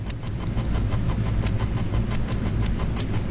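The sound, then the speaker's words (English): Faint clicks repeat in a steady, regular pattern over a constant low rumble and hiss, like a patterned radio signal buried in noise. No one speaks. “You hear that clicking? There's sort of a little ch-ch-ch-ch-ch-ch-ch. in the background, and then there's a clicking. And that clicking is in a pattern.”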